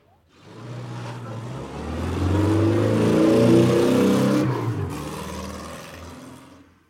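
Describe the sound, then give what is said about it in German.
A combustion car engine rumbles and swells in pitch, then its growl gives way to a smoother electric-motor whine that fades out, like a petrol car morphing into an electric one. No talking. “Okay, wir hatten ja den Anfang schon, also aus dem Verbrenner wird ein E-Auto.”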